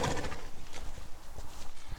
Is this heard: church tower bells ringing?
no